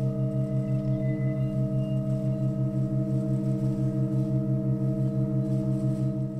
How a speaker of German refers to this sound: Man hört so ein leichtes Störgeräusch beim Einstecken der Pfeife und das können wir uns auch mal anhören.